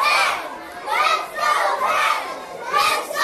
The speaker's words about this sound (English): Kids rush out into the hallways, lining the walls and lockers. The team streams into the middle school to clapping and cheers.